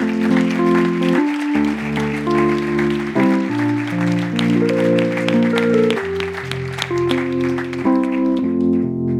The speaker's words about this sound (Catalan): Un fort aplaudiment per ells també.